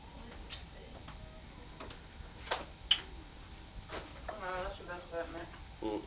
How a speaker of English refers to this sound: There's two big clocks there that make the noise out there to anybody's house.